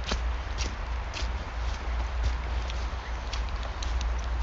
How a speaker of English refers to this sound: I don't know if you can hear the rain.